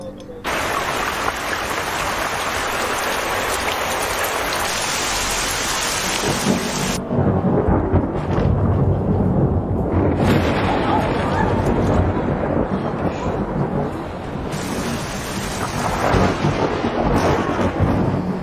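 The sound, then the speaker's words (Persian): Heavy rain pours down steadily and loudly for the whole stretch, a dense continuous hiss with deep rumbling thunder rolling underneath. “هر جوری داره بارون میاد.”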